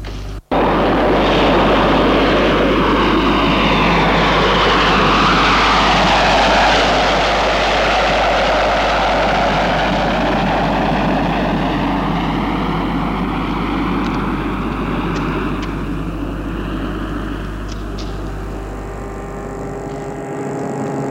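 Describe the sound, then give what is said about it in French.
A small private propeller airplane landing at Saint-Olas airport on a flight to Lyon, its engine droning loudly and steadily for the whole stretch, the pitch sliding slowly downward as it passes and eases off, with no voices. “Son avion privé va atterrir à l'aéroport de Saint-Olas.”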